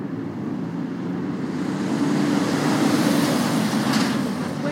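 A large lorry rumbles past on a busy main road, its deep engine roar swelling to a peak and then easing slightly as it goes by, with no voices.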